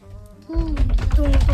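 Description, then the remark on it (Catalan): A brief burst of rapid, rhythmic batucada-style drumming with dense low thumps and clattering hits, apparently imitated by a voice, with a sustained hummed tone riding over the beat. “I per acabar, una batucada.”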